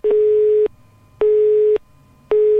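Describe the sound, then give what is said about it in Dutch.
A steady, mid-pitched telephone answering machine beep tone sounds three times in an even on-off rhythm, each beep lasting about half a second, loud and clear with no talking. It is the beep of a church telephone confession line, signalling the caller to leave a confession. “Laat je biecht achter na de pieptoon en sluit af met een hekje.”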